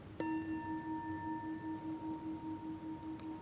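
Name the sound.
bell ringing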